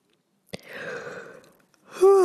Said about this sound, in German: Bei mir kommt direkt ein Gähner, eine Entladung.